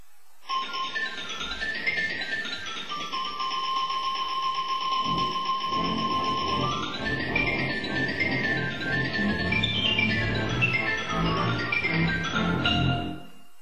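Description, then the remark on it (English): A xylophone plays a bright, busy run of quick notes, mid to high in pitch and fairly loud, with a sustained ringing tone above it and no talking. “Now, of course, the xylophone.”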